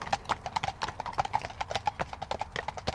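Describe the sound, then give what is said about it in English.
Hooves clip-clop steadily on a hard footpath in the UK as two horses with riders come past, their footfalls overlapping in a brisk, uneven rhythm, fairly loud. “Two horses coming towards us now. And with riders.”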